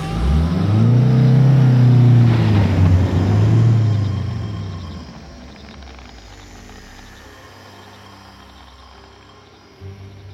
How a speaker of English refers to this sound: I started the car and reversed out of there as quick as I could.